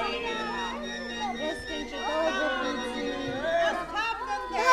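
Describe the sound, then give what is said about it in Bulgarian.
A busy market fair crowd, a huge throng gathered on the square in front of the tsar's palace, buying and selling: many overlapping voices chatter and call out at once in a steady, dense murmur, with occasional louder shouts rising above the hubbub. “Това деца е Панаир. На площада пред царския дворец се е събрала огромна тълпа.”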